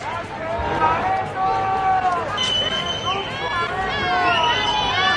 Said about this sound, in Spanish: Esos son los abucheos que se han escuchado hoy en el Paseo de la Castellana.